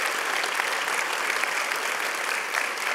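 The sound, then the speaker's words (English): A large audience applauds and cheers continuously to celebrate a cancer patient's clinical trial, in which no one has had a recurrence of cancer. The clapping is a dense, steady wash at full volume that fills the whole moment without letting up. No one speaks over it. “Can you cheer with us for that?”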